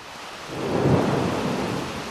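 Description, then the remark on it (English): Heavy rain pours down in a steady hiss in front of an old tobacco warehouse, now an antique mall, in Mullins, South Carolina, while a low rumble of thunder swells and rolls through the middle, fairly loud, with no voices. “In front of one of Mullins' last two remaining tobacco warehouses, a downpour has started.”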